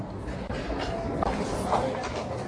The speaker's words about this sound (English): To cover more territory, traffic, and stress-free, I ride the subway. Many European cities have subway systems. The one in Paris is about the best in the world.